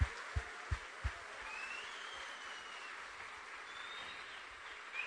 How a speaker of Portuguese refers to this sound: Aplauda o Senhor, glória a Deus.